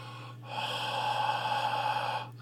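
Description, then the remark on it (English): A person imitates someone sitting in a booth just breathing, a long, noisy, raspy exhale, steady for about two seconds with a low hum underneath; no words spoken. “At first, it sounded like they just had somebody standing, sitting over there in the booth going, just breathing.”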